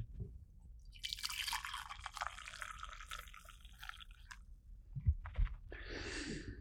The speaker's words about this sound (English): I brought some decaf coffee with me tonight. Let's pour it. Oh, did you hear that little clink? Check this out.